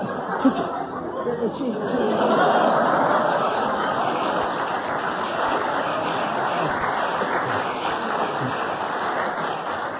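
Studio audience applause, a dense, steady wash of clapping that swells after the first couple of seconds and holds at an even level for the full ten seconds, with faint murmuring mixed in.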